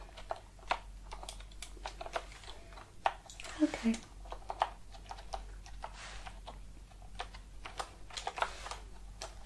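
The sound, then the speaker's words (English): Crisp clacking of computer keyboard keys pressed in quick, irregular bursts throughout, with a short spoken word partway through. “So we'll start with your keyboard.”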